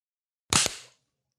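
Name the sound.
hand clap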